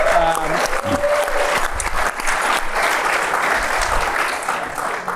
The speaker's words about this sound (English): You can give him a round of applause for that.